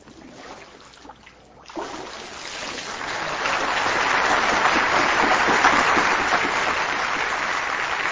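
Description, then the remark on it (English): After a quiet, murmuring moment, water splashes as someone is plunged under during a baptism by immersion, swelling into a loud, steady rush of sloshing and churning that carries on to the end. “So it starts tonight, and you're going to be just as pure as those children when you come up out of this water.”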